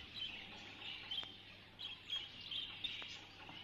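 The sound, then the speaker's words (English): A red show canary, with a red glow through its feathers, particularly at the throat, chirps in quick, high-pitched bursts over a soft steady hiss, with brief sharp clicks between the calls and no one talking. “There's a red glow through the feathers, particularly at the throat.”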